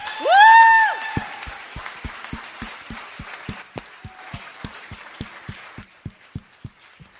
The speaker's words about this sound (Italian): Ancora un altro applauso, dai.